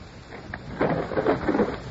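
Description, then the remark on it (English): Rain hisses steadily while a low roll of thunder from an approaching storm swells in partway through and rumbles on, moderately loud, with no voices. “He had risked the approaching storm in order to have an hour with Sir Richard”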